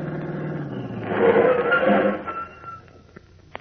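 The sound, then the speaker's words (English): A car engine hums, swells louder with a rushing, whining sweep as the vehicle swings around a corner, then fades and settles as it pulls up right in front of a house, followed by a few faint clicks. “Pulled up right in front of the house.”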